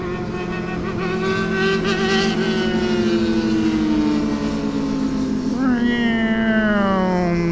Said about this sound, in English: Here comes some motorcycles. Everybody's favorite motorcycle gang.